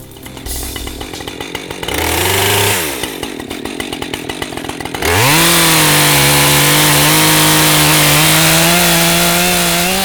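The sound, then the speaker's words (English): A chainsaw cutting up fallen trees in the cleanup after a recent ice storm in Halliburton County: it idles with a rapid puttering, briefly revs, sputters again, then roars to full throttle with a steady high whine as it cuts, loud throughout. “If you live in Halliburton County, the sound of a chainsaw is one you'll be hearing a lot as efforts to clean up fallen trees from the recent ice storm continue.”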